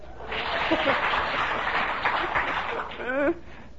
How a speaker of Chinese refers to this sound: 就是这样子啊，你说是不是？是就鼓掌嘛。